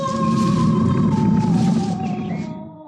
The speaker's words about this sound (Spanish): Escuchan los rugidos de Tasima, el enorme tigre guardián de la hermosa mujer salvaje